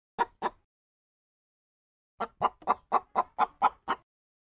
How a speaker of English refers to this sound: The campaign for Nikki Haley versus Trump is getting aggressive with chicken. Chicken are present in the two campaign ads.